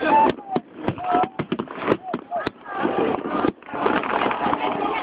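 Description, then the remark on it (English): Professional New Year fireworks explode close by in a quick, irregular string of sharp bangs and crackles, followed by a dense, roaring wash of noise, with people talking throughout. “We're right next to the fireworks.”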